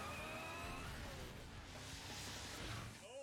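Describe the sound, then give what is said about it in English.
A toy race car's engine whines and revs steadily, its buzzy pitch sliding up and down as it zooms along for a few seconds, with no one talking. “well, he's got his racer.”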